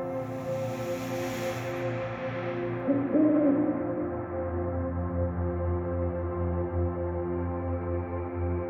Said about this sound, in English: Many moments pass, but then you hear it, another hoot in the distance. Another great horned owl approaches.